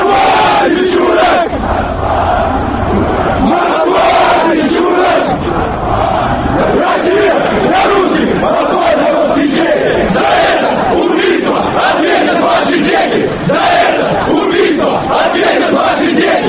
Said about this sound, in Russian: Лозунги, которые с самого начала на Манежной площади выкрикивали собравшиеся, уже не имели прямого отношения к гибели Свиридова и носили националистический, в частности, антикавказский характер.